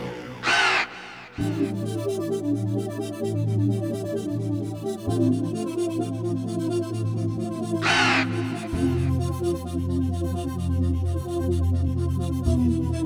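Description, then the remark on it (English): A raven lets out two loud, harsh calls, one right at the start and another about two-thirds through, over a steady low droning background with no talking. “listening to the Mr. Raven Yell.”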